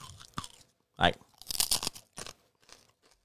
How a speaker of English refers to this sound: Can you hear me chewing? I mean, these are good. These are really good.